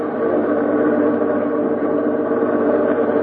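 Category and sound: vehicle, bus engine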